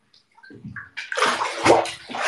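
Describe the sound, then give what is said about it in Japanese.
Water sloshing in a bathtub with AYURA Well Balance Night Reat Bath additive, starting with a few small drips and light splashes, then a close, continuous swish of bathwater being stirred and moved about. No one speaks. “水音いい？じゃあ鳴らすね。”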